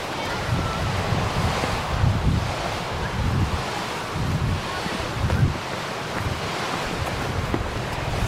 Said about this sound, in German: Wenn der türkisfarbene Ozean auf den ockerfarbenen Sandstrand trifft, spüren Spaziergängerinnen und Spaziergänger bei Flut ein 20 Grad Celsius warmes Wasser, fast das ganze Jahr über.